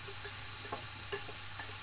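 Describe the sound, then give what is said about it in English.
A steady, high hiss of sizzling as just-boiled kettle water is poured into a hot pan, broken by a handful of sharp little pops and crackles at irregular moments, with no one talking. “Just going to pour the water into there.”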